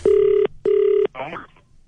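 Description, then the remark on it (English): Two steady, evenly spaced telephone ringing tones over the line, followed by a brief garbled voice-like burst as the call connects, all clear. A shoe shop worker is phoning a customer. “She makes contact with me, and I now phone him.”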